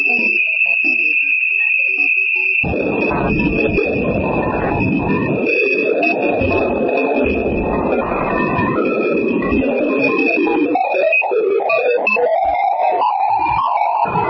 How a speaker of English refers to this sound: Studying Ganymede, Jupiter's icy moon and the largest moon in our solar system, can be quite the challenge. Scientists at NASA's Jet Propulsion Laboratory on Friday published an audio track to hear what Ganymede sounds like in space.